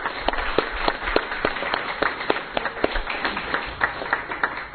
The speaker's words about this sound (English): I'd like everyone to give him a round of applause.